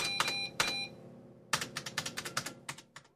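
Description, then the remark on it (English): Keys clatter on a computer keyboard as someone types a code, first two isolated taps, then a quick run of about eight crisp keystrokes in a steady rhythm, fairly loud with no talking. “He was typing a kind of code on the screen.”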